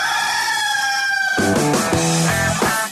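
A rooster crows loudly and close up, one long drawn-out call that starts as a steady, strained note and breaks into rougher, choppy pulses at the end, with no talking.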